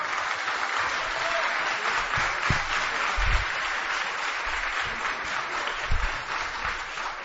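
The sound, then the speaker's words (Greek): Steady applause at a regional council meeting in Thrace, Greece, with regional councillors clapping: a dense continuous patter of many hands at even loudness for several seconds, with no voices standing out. “Και περιφερειακοί σύμβουλοι να χειροκροτάνε.”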